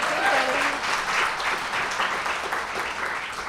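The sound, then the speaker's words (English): Steady, dense applause from a crowd, many hands clapping at once in an even wash for several seconds, with a brief voice or cheer rising faintly at the very start. “I'd like us just to spend the next 30 minutes applauding for various women and femmes, but instead we're going to have a conversation about the law.”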